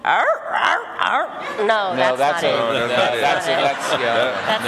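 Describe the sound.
On Wait Wait... Don't Tell Me, a person's voice imitates the sound a donkey actually makes, rather than hee-haw: a loud run of strained, rising and falling whooping brays that carries on for several seconds, with a second voice seeming to join in partway.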